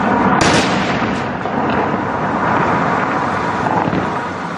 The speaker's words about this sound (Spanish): Jonás, que según la Biblia tuvo la dicha de sobrevivir luego de pasar 3 días y 3 noches en la panza de una ballena, miles de años después fue sacudido a dinamitazos por el Estado Islámico.